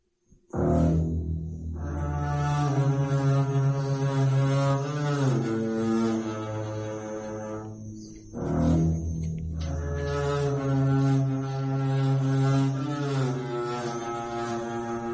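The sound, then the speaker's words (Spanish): A homemade double bass built from a chemical drum plays deep, sustained bowed notes with a buzzy, rich tone, in two long phrases separated by a brief pause, with no voices. “Este contrabajo está hecho de un tambor de productos químicos.”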